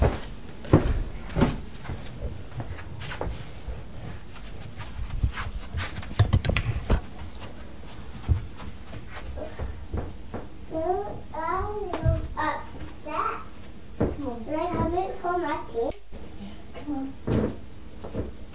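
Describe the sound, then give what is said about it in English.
A small door is opened and shut repeatedly, giving sharp wooden clunks and knocks at an uneven pace, while a young child babbles and vocalizes partway through. “No, don't shut the door because Daddy's shirt's there.”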